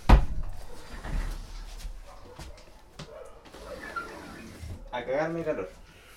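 A window slides shut with a thump at the start, closed because a dog is barking, followed by a scraping, rattling rumble of the frame. Near the end comes a short, pitched squeal or bark.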